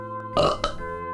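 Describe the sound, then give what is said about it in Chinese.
A single loud burp, gurgly and drawn out for under a second, ending with a brief second push, over a soft steady musical hum. “我们也会流口水，打饱嗝”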